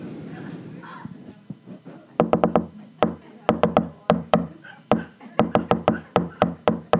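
A bird pecking hard and fast in the morning, sharp woody knocks coming in quick, uneven bursts like typewriter keys, loud after a softer, murmuring opening of a couple of seconds.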